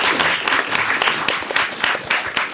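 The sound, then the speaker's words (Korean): An audience applauds a 91-year-old grandmother in attendance, many hands clapping in a dense, continuous patter with sharper individual claps poking through now and then, loud and sustained throughout. “와, 정말 우리 박수 쳐야 돼.”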